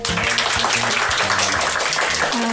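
A sustained applause sound effect played on a radio show's listener-letter segment: a dense, steady wash of many hands clapping at a constant loudness, with a faint low tonal murmur running underneath.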